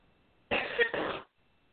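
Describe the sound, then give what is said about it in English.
Two harsh, closely spaced coughs burst out loudly right up close, lasting about a second together, with quiet before and after and no talking. “And I'm so sorry, I don't know where that burst of coughing came from,”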